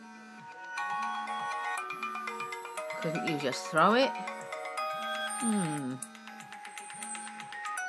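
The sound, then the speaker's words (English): A phone ringtone plays over and over, a bright repeating electronic melody cycling in steady pulses, with a person's voice speaking briefly over it midway. “I was actually downstairs in the kitchen when it went off. Thought I'd let you give you a taste of what it sounds like.”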